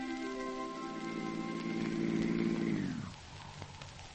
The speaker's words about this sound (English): 1935. The same service station. A car drives up and comes to a stop.